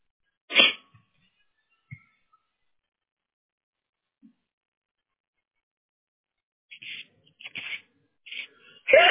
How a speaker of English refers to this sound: Excuse me. Oh, bless you. That was okay. A big sneeze.